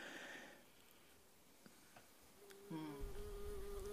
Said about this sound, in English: The sound of native bees buzzing a flower may be familiar, and you can hear the difference between their buzzing of a flower for its pollen and the lower pitch of their flight.